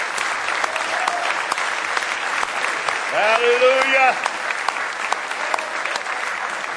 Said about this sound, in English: Somebody say praise the Lord. Give him one more big old hand clap of praise tonight.